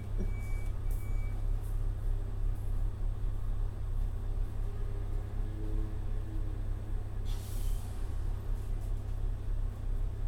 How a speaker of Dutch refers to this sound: Buiten is de vuilnisman te horen. Even kijken of ze hun werk wel goed doen.